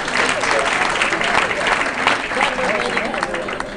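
A crowd at a birthday party for Dick Gregory applauds steadily for several seconds to welcome his daughter, a dense, even wash of clapping with no breaks, sustained at a fairly loud level throughout.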